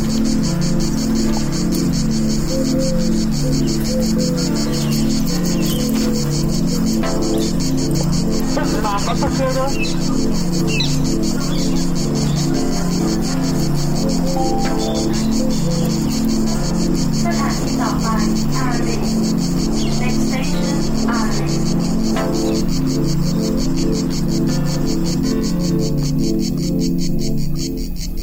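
A steady, high-pitched cicada drone buzzes continuously throughout, fairly loud, over a low rumbling hum in the background.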